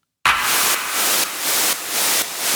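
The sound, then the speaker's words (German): Loud, steady white-noise hiss with a clap sample layered in, the clap adding a sharp transient attack and a reverb tail, the noise swelling brighter in a regular pulse about every half second, with no voices; a sound effect being built for a music production. “Also unser Rauschen und der Clap zusammen machen dann Folgendes.”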